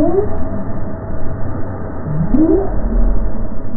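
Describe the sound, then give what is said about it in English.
A right whale's low upsweeping calls, two rising moans a couple of seconds apart, heard through steady underwater hiss and rumble from a passive recorder; the whale was traveling off Cape Cod, in the Gulf of Maine, in 2015. “This whale was traveling off the Cape in 2015.”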